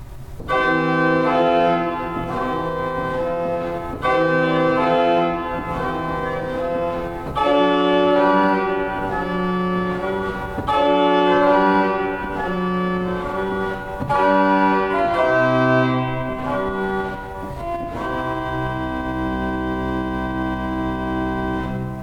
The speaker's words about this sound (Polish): Tak właśnie brzmi eolina ośmiostopowa i skonfrontujmy ją teraz z gambą ośmiostopową, czyli najcichszy głos smyczkujący z głosem najgłośniejszym z tej samej rodziny.